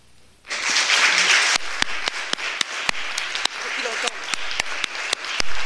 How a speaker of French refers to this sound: J'espère que tu entends les applaudissements.